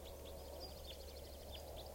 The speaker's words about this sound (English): Yep. Recording now, it sounds like a bird is crossbill sawing here. I think it's a type 4 juvenile.